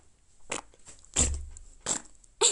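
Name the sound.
imitated fart sound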